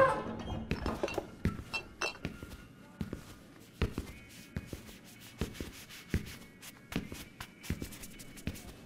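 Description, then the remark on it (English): An elderly bartender wipes a wooden bar counter with a cloth in a large saloon in the daytime, in soft, scrubbing strokes, mixed with footsteps and occasional light clinks of glassware. “He slowly walks up to the counter, where the elderly bartender is wiping the counter.”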